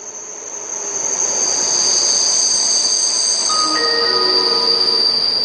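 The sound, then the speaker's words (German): An Interregio train from Arth-Goldau rolls into Göschenen station during the holiday season, its steady rumble growing slightly louder, with high metallic wheel squeals and shrill brake tones rising near the end. No voices are heard. “Jetzt während der Ferienzeit ist immerhin ein bisschen was los auf dem Bahnhof Göschenen.”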